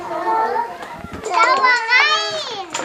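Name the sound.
children playing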